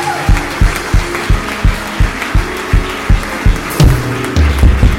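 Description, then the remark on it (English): A group claps hands together in praise of the Lord, in a steady, rhythmic beat, sharp loud claps roughly three per second, with a sustained low musical tone joining toward the end. “Can somebody clap your hands and give the Lord?”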